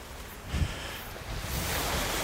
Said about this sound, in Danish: Vi får da i hvert fald en god havlyd med her. Der er godt gang i, ja. Der er godt gang i vinden her i hvert fald.